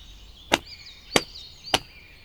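Three sharp, evenly spaced slaps of hands on legs, each a crisp smack about half a second apart, standing out over a quiet background with faint high tones.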